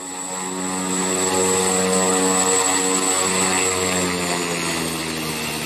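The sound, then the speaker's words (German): A nine-seat single-engine turboprop plane with a 675-horsepower turbine in the nose spins up as its engine is started, a loud steady turbine whine over a deep propeller drone that swells and holds, with no voices. “Das ist ein einmotoriges Flugzeug. Es hat Platz für 9 Passagiere. Es hat eine Turbine vorne drin, sehr leistungsstark, 675 PS und kann bis zu 800 bis 1000 Kilo Fracht transportieren.”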